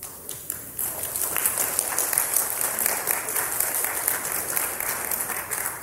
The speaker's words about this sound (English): And so we applaud you.